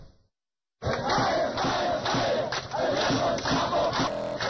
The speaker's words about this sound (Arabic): صراخ مستمر منذ 15 يوما في محافظة الرقة السورية ضد تصرفات مسلحي ما يسمى الدولة الإسلامية في العراق والشام.